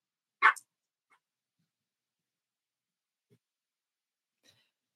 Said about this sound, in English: Sorry, that's the puppy.